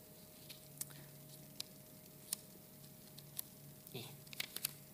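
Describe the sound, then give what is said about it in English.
Quiet, irregular crinkles and rustles of paper being handled, scattered short crackles with a brief cluster near the end, over a faint steady hum and no talking. “Paper is hard.”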